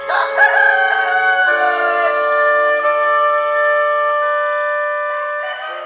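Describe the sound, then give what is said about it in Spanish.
A rooster crows loudly, a long drawn-out call that starts with a wavering rise and fall, then holds a strained, sustained tone before fading out. “Y en aquel momento cantó un gallo.”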